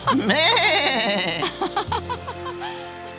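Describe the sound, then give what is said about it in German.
A young goat bleats in a long, quavering cry, followed by a few shorter, wavering calls, clear with no talking. “Zicklein meck, Tischlein weg.”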